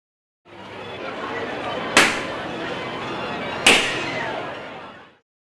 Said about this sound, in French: I can hear a haunted house. J'entends une maison hantée.